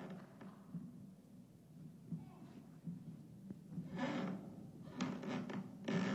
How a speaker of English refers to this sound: It's the creaking of timbers. That means that the wind and the waves are making the wood of the ship come apart.